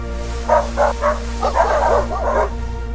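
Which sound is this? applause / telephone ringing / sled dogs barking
sled dogs barking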